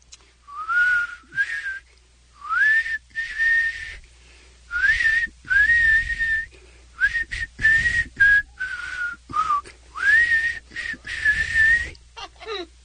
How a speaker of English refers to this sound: The man is trying to whistle for folks just to right? Resist, by the way. Can you keep going? Can I get a little more? It's such good stuff.